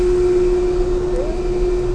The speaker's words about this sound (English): We're about to go into the motor room, and you should expect to hear some interesting sounds here. We're still on board the Nore.